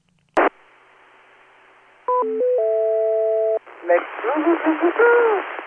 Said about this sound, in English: And so during the net time from about 8 o'clock until 11, they switch into net mode, and the courtesy tone expands accordingly.